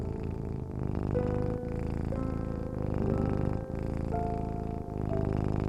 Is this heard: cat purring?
yes